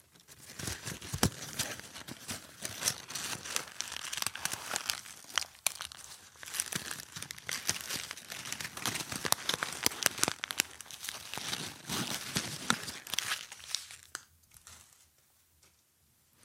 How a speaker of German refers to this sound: Geräusche wie das sanfte Kratzen auf einer Oberfläche, das Klopfen auf Holz oder Plastik oder das Rascheln von Papier sind sehr beliebt. Und das mache ich natürlich für dich jetzt. Jetzt kommt das Papier.